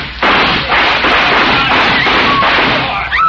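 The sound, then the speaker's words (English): A loud, sustained volley of gunshots fired into the air, the cracks overlapping into a dense, rattling roar for about three seconds before cutting off. No one speaks. “Let's go in shooting.”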